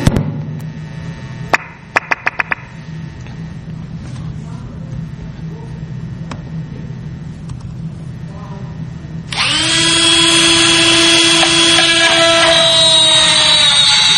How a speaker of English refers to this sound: This is a plug. This is a shear line attack. So the drill is just actually creating another shear line. And you can see how easy that's going through this profile cylinder from Europe.